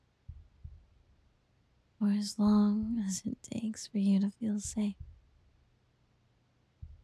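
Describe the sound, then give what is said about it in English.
Soft, low heartbeat thumps pulse faintly in the background, briefly masked while a person speaks softly over them, then returning once the voice stops. “And you could lay here listening to my heartbeat for as long as it takes.”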